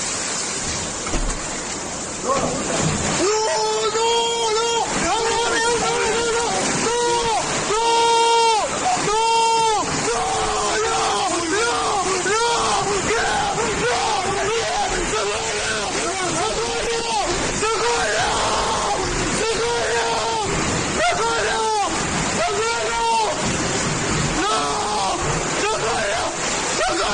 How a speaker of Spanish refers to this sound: Hay un testimonio, un sonido, que a mí me parece desgarrador, estremecedor, el de un hombre, una familia, que contempla cómo el muro no soporta el fuerte empuje del agua.